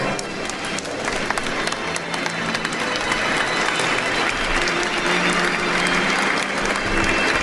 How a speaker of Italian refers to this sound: Tutti gli altri sono distratti dagli sposi, si accalcano intorno a loro, applaudono, gettano manciate di riso, pretendono il bacio, il rituale lancio del bouquet.